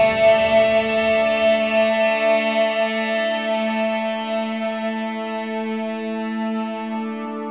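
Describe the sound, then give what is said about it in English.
A heavily distorted chord rings out on its own at the end of an album's closing song, a dense buzzing drone that holds steady and slowly fades over several seconds. “Of course, end with some distortion, which I've done on, I think, all of my albums at this point.”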